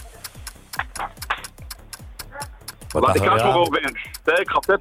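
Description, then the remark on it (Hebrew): A clock ticks steadily as a timer while someone is asked to give the continuation of a verse, with sharp, evenly spaced clicks about three per second throughout. Partway through, a voice starts talking over the ticking, which continues underneath. “שעון מתקתק ואת ההמשך.”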